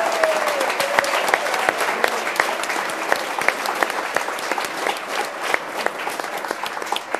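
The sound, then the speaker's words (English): A crowd at a KRCC event claps steadily for several seconds for the station's staff of 12 who organized it, a dense, fairly loud patter of many hands with no voices over it. “So let's go ahead and give them a round of applause.”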